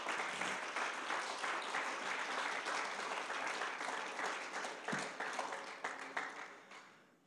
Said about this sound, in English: Amen. Amen. Amen. Come on, clap your hands.